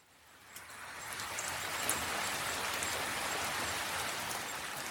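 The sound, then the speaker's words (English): Steady rain falls continuously at a bird-banding site, a dense hiss of drops pattering on surfaces, building slightly at the start then holding even and moderately loud throughout, with no voices. “It's raining, right?”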